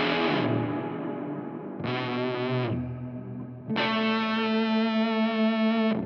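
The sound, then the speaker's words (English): Three distorted guitar chords played through a Gallows in the Morning pedal, a double overdrive and reverb in one unit, ring out one after another, each sustaining in a thick wash of reverb that smears into the next, loud with no talking. “And haunting reverb in one pedal.”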